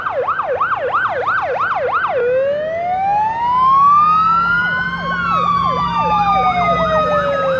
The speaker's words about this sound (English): The next night, high drama. Fire trucks in the street.